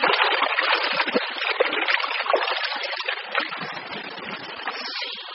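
Continuous churning water splashing as someone swims in the Mediterranean Sea at night, a dense steady wash of spray that stays fairly loud throughout and eases slightly toward the end, with no voices.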